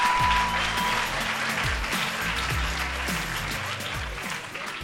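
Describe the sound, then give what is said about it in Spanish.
An audience on the show Despierta UMH breaks into steady, sustained applause for three athletes being introduced for interviews: a dense wash of clapping that stays loud and even for several seconds without pause. “Pido un fuerte aplauso para ellos, por favor.”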